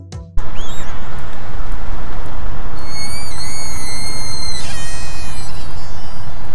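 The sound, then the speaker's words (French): Orca whistles: thin, high tonal calls that sweep and waver in pitch, growing strongest midway, layered over a constant loud hiss of underwater noise. “Et oui, ce sont bien des sifflements d'orque.”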